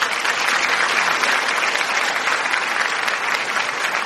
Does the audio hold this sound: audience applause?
yes